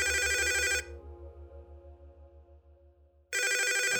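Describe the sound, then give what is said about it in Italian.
A telephone in an apartment on Corso Magenta rings loudly in two bursts of bright, rapidly trilling tones, separated by a stretch of low pulsing hum, with no voices present; a woman is calling. “Due ore dopo, uno squillo interrompe l'idillio tra l'Aroico e il D'Alessio.”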